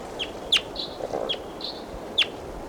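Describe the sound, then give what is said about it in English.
A wild bird calls in a loose, irregular series of short, high, sharp chirps mixed with a few buzzy notes, moderately loud over a faint steady hiss, with no one talking. “Recording, here's a wild bird again.”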